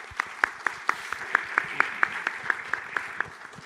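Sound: audience applause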